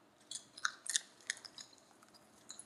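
Someone chews a hard, crunchy snack of Semgi's sweet chili anchovies, producing a soft, irregular series of crisp, high crackles and snaps with short pauses between bites, and no talking.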